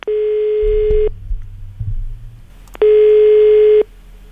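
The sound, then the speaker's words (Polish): A telephone ringback tone sounds twice as a radio presenter phones a listener, each a steady, buzzy mid-pitched beep lasting about a second, separated by a pause filled with low rumbling noise. “Dzwonimy do niej, no i wręczymy ten pakiet od Maxana i twojego radia.”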